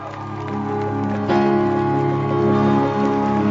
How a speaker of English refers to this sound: Hallelujah, with a great shout of applause unto the Lord.